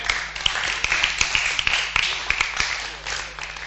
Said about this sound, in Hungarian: Kedves gyülekezet, szeretném nektek bemutatni a mai este …. Nagy tapsot kérek!